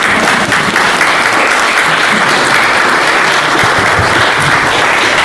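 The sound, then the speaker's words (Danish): An audience at a groundbreaking ceremony claps steadily, a dense, sustained burst of applause that holds loud and even for several seconds without any voices rising above it. “Jeg synes godt, vi kan klappe af den første.”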